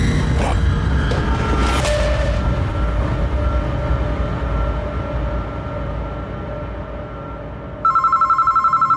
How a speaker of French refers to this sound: Le téléphone a sonné, sur le coup, j'étais en plein sommeil, il était vers 3h, 3h15 du matin.